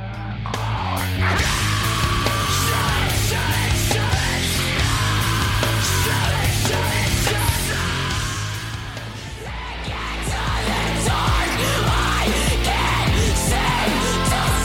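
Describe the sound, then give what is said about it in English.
Harsh screamed vocals ride over a dense, loud alt-metal mix of distorted guitars and heavy bass, sustained throughout with a brief dip in intensity midway before surging back. “And then how about the screaming bit that you caught? That reminds me of the sort of like alt metal, new metal sounds”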